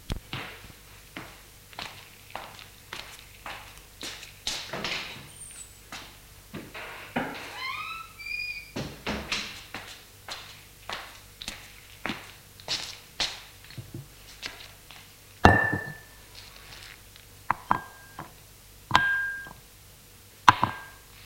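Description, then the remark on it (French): A series of light knocks and taps with a creaking sweep partway through as a grandmother opens a sideboard, then bright glassy clinks as she takes out a bottle and three glasses and sets them down on a table. No one speaks. “La grand-mère se lève, va au buffet, l'ouvre et sort une bouteille et trois verres qu'elle porte sur la table.”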